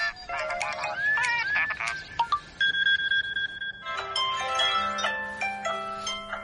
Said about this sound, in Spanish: Es mi despertador. Todas las mañanas, cuando suena, lo cojo inmediatamente y compruebo si he recibido algún mensaje durante la noche.